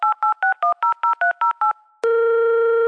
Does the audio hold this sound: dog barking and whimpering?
no